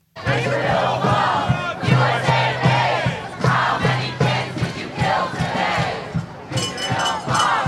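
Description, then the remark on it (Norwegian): A large crowd of student protesters at Columbia University in New York chants in loud unison, repeating a short slogan, including "How many children have you killed today", in a steady, forceful rhythm, with the voices rising and falling together throughout. “Hvor mange barn har dere drept i dag, roper demonstrantene.”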